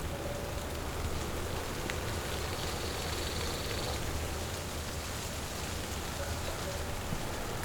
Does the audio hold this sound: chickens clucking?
no